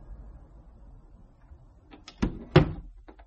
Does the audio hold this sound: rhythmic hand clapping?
no